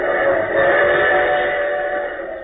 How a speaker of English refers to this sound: Moving on to another type of disaster where the Red Cross comes quickly to our side, we give you the sound of the crack passenger train, the Red Arrow, en route from Detroit to New York just a year ago last month.